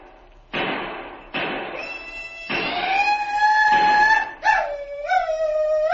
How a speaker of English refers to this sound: That was a Sioux war whoop if ever I heard one.